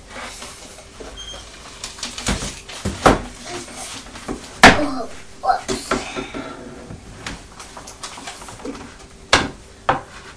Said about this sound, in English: Have you closed the post box door again? Yes. The letterbox door? Yep.